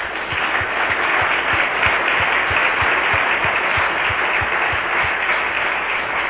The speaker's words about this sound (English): Anyway, we just want to thank you again. Let's just give another round of applause.